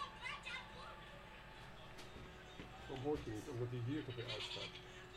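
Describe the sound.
A goat bleats loudly in a wavering, quavering cry lasting about a second, with people talking before it and faint chatter in the background.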